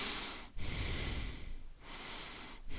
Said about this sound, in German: Das Mikro ist relativ empfindlich gegenüber Atemgeräuschen